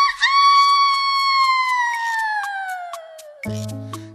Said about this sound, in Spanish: Sí, dice yo, es un gallo, no es un gallo, sí, es un gallo. Y canta, ¿veis?